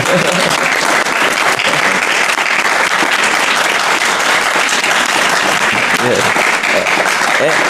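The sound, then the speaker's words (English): Loud, sustained applause from a large audience welcoming a poet invited to give a poetic rendition, a dense steady wash of clapping that holds at full strength for several seconds without a break. “Please, a massive round of applause”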